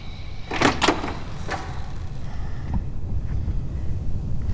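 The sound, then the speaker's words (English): A garage door, reached across a breezeway, is pulled open with two or three sharp, rattling clunks in quick succession, followed by a steady low rumble with no voices. “Dennis crosses the breezeway and opens the door to the garage, which is utterly dark inside.”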